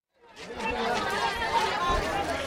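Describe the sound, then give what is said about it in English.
A small crowd of many voices chattering and shouting over one another in a dense, steady babble, with shuffling and jostling noises beneath, as people push and pull, trying to push their way into the terminal at Palloch Airport in South Sudan. “Tempers are flaring, people are pushing and pulling as a small crowd of people try to push their way into the terminal here at Palloch Airport.”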